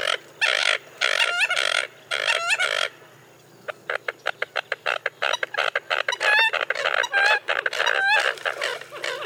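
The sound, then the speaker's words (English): A small flock of American coots, also called mud hens, calls: harsh burping bursts giving way to a rapid run of clucking chuckles and nasal squawks, overlapping and busy, with no voices. “So let's listen to the non-musical sounds of a small flock of American coots here.”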